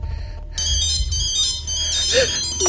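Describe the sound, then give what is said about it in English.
A mobile phone ringtone for an incoming call starts abruptly in a coat pocket and keeps playing, a bright, high electronic melody of stacked beeping tones, fairly loud, following a brief low rumble, until the call is cancelled. “yanks out his phone and cancels the call.”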